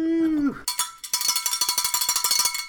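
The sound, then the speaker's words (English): A brief falling tone gives way to a loud handbell clanging rapidly, a steady run of quick, bright metallic strikes, roughly six or seven per second, that continues for about two seconds. “Good thing I'm a little bit tech-savvy, because I was just listening back to that bell, and I blew my eardrums out, so I was able to adjust the volume, so you're welcome.”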